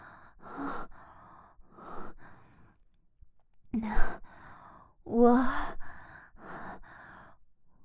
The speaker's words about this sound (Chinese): 我只是看到了这份新的证据，很惊讶，所以喘息声大了一点而已。